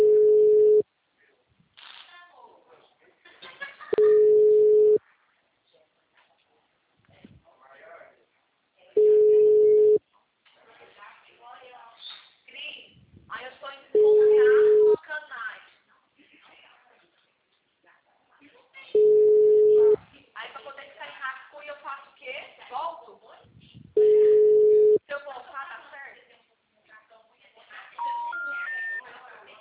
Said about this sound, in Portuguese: O telefone encontra-se ocupado. O número está ocupado.